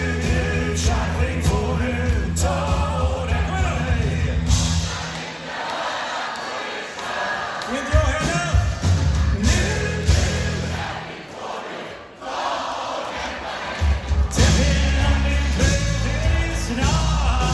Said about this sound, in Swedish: Och publiken, där i alla fall hälften är kvinnor i alla åldrar, skrålar energiskt med i textrader som